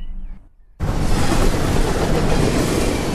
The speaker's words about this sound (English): Yep, there's the 1047 to Euston. There's the 1105 to Manchester Piccadilly. Oh, what a beauty. It's a vast world out there. You've got to be on your toes with your binoculars as trains come past at deathly speeds of almost 200 kilometres an hour.